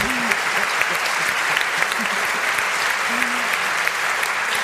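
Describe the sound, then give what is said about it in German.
Sustained audience applause with dense, steady clapping throughout, fairly loud and even, with a few faint voices briefly audible beneath the clapping. “Und Sie haben ja schon gemerkt, das Wort Applaus kennen Sie.”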